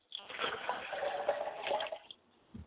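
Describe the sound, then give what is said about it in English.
Water is poured steadily from a glass as a libation to a father's spirit, a splashing, bubbling stream lasting about two seconds before it trickles off, followed by a soft low thump. “I pour a glass of water to my father's spirit, and I say, Father, I quench your thirst with this drink.”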